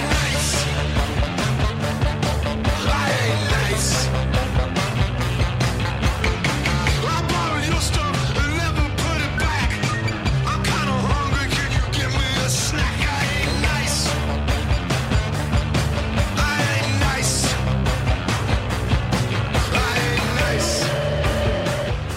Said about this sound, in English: … by …. I'm never going to sell you on this band, am I? Well, I like that track.